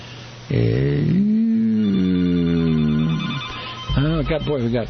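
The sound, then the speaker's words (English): A telephone rings loudly at the Free Radio Santa Cruz station: a long, steady electronic tone lasts about three seconds, then a short wavering burst follows after a brief pause. “Phones are ringing off the hook.”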